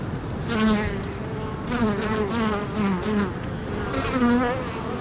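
A steady hum of native Irish honeybees buzzing continuously around a small alder tree, with wavering pitch as individual bees come closer; no voices, just the dense insect drone throughout.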